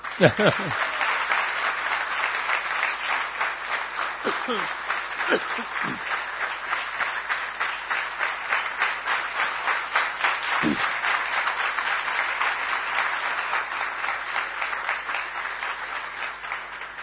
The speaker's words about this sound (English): You can clap after you fully appreciate.